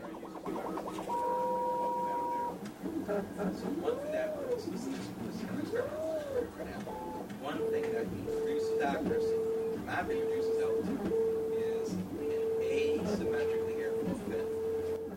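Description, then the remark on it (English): A 3D printer at a NASA facility in Fairmont, printing an altimeter mount for a rocket, hums and whines as its motors run, with tones gliding up and down, then a steady run of evenly spaced high beeping pulses over a constant mechanical background. “It's a three-dimensional printer housed at the National Aeronautics and Space Administration's facility in Fairmont.”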